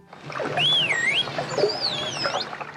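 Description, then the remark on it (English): A smooth, rising-and-falling computer-generated whistle (the whistle for "ball", produced by pressing a keyboard button) is followed by the dolphin Delphi imitating it with a similar swooping tone, both fairly clear over a noisy, crackling underwater-like background. “After the computer-generated whistle, you hear Delphi imitate it.”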